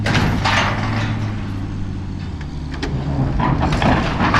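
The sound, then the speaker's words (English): Tractor engines drone steadily in a low, heavy rumble as they strain under load, pulling chains to topple the White Alice tower in Bethel. Scattered metallic clinks and creaks from the tightening chains cut through. No voices. “The tractors begin pulling and the chains tense up.”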